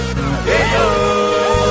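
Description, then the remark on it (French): Several children's voices loudly imitate a rooster's crow, their overlapping calls sweeping up and falling back in long, shrill, yell-like cries that continue to the end. “C'est le chant coq.”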